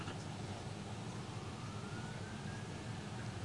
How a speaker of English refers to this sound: Siren.